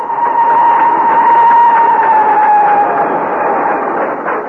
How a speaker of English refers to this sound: The train roared on into the night.